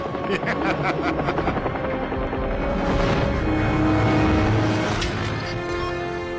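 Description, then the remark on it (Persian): A helicopter flies by, its rotor thumping in a rapid steady chop over a loud, continuous engine roar that swells slightly toward the middle. “من نگران تو نیستم، نگران هلیکوپترم.”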